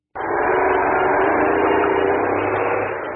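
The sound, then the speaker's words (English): A car engine rumbles steadily and loudly, starting abruptly and holding a constant droning pitch as the car drives off a ferry that has stopped at an island, with no voices. “You get in your car and drive off the ferry.”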